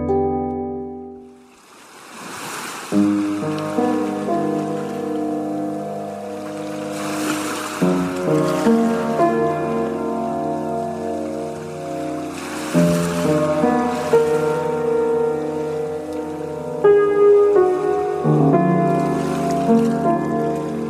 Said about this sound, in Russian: В ночном кресле, ночью на балконе, океан, колыбельный шум.